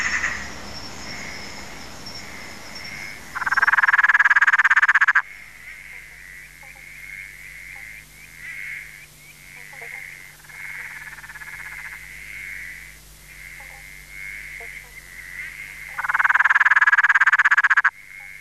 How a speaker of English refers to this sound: And that one is the motorbike frog.